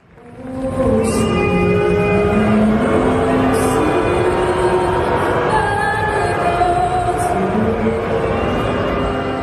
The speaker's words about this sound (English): The sound of the US national anthem being booed by Canadian supporters of the NBA basketball team, the Toronto Raptors, Sunday night as that news filtered through of tariffs on Canadian goods that was before their game with the Los Angeles Clippers.